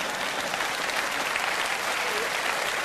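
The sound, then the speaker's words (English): Steady applause from a large audience, a dense crackle of many hands clapping at once that stays even and moderately loud for the whole stretch, with no voices standing out. “I notice I'm not getting much applause on that.”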